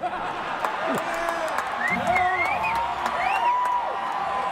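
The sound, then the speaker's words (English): A large crowd cheers and applauds continuously, a dense steady roar with scattered claps and rising whoops and shouts cutting through. “Crowd's enjoying this.”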